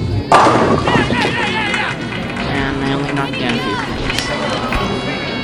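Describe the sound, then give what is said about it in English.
In a bowling video game, a ball thrown off to the left on frame 4 crashes into the pins, knocking down about half of them (pins 2, 4, 7 and 8): a sudden loud clatter that rattles on under continuous, steady synthetic-sounding speech. “Let's have a look at which pins were knocked over.”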